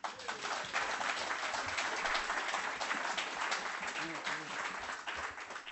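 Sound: applause in parliament chamber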